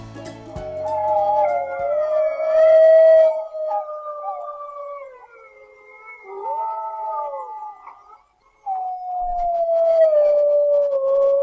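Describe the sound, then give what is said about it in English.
A pack of gray wolves howls together, several long, overlapping wavering tones rising and falling in chorus, sustained, with a brief pause before one voice resumes strongly. “That, my friends, is the sound of a pack of gray wolves howling.”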